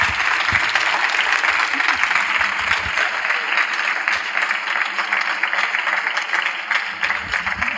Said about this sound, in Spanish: Nada más, damos, si os parece, el aplauso que se merece a Azpiri.